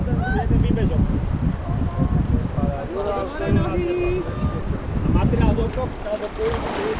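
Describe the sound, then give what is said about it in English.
Rushing river water and steady wind buffeting the microphone, with indistinct voices calling out now and then over the continuous splashing, as a raft moves downstream on a river at Strechno. “let's now get a taste of what it feels like to raft a river.”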